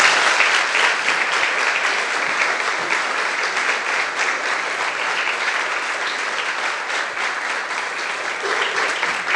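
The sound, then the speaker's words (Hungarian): Sustained audience applause, a dense steady wash of many hands clapping at an even level for several seconds, with no voices standing out above it. “Úgyhogy Gyuszi abszolváltam, kérek egy tapsot az Ádám Gyuszinak.”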